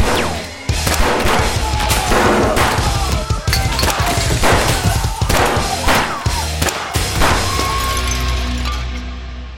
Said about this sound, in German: Fakt ist, dass der erste Schuss aus Elkes 9mm abgefeuert wurde. Fakt ist auch, dass sie alle 15 Schuss des Magazins im Laufe der nächsten Minuten abgefeuert haben muss.